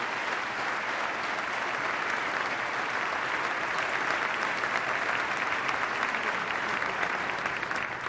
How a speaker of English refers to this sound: Let's give the state workers a round of applause for their great work.